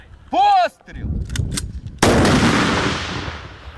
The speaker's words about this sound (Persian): میدان نبرد در نزدیکی بخمود گرم است و تانک های اوکراینی به سوی نیروهای روس شلیک می کنند.